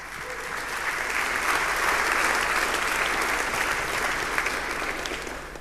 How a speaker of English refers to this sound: I would also like to take this opportunity to thank the sponsors because they made it possible for me to come here and share some African awesomeness with you guys. So let's thank them with a round of applause, please.